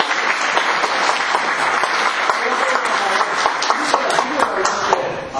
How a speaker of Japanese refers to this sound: お時間の関係ありますのでお二人お戻りになるので拍手でお送りください。